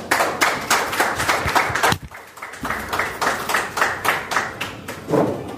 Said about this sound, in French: C'est donc sur ces applaudissements que nous allons vous dire au revoir, fidèles auditrices et fidèles auditeurs de Mon Droit au quotidien.